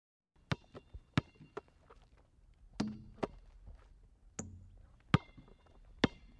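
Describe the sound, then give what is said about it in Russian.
A woman bounces a big ball: a series of sharp, irregularly spaced thuds, about six loud hits with softer knocks between, some with a deeper boom underneath. No one speaks. “Она подпрыгивает большой мяч.”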